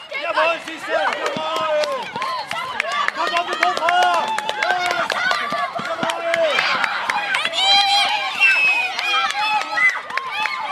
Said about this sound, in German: Selbst die Lehrerinnen und Lehrer feuern ihre Klasse, wie hier beim Staffellauf, mit großem Enthusiasmus an.